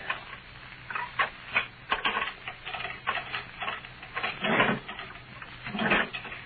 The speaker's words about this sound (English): get my keys and unlock the door.